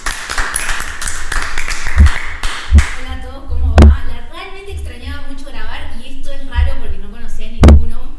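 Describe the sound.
Four sharp, separate claps land at uneven intervals, loud and crisp, while several people keep talking underneath.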